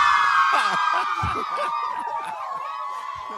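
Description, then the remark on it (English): A large troupe of K-pop fans, girls who came by bus to Midori House, scream and cheer in a sustained, high-pitched wall of sound that stays loud throughout, with a few lower voices calling out underneath. They start screaming when the hosts dress up in traditional Korean costumes. “none of these girls started screaming until we dressed up in our traditional Korean costumes”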